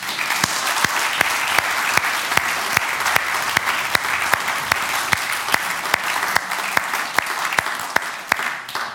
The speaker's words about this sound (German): Jesus ist das Licht der Welt. Wollen wir ihm mal einen Applaus dafür geben?